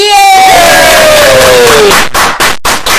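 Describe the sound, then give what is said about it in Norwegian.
A loud burst of cheering and whooping from a crowd, applauding the announced winner of the evening, with a rising shout over dense applause, followed by several sharp bursts of clapping and cheers that cut in and out. “Da, nå klapper vi så galt at det slo ut på riktig skala her.”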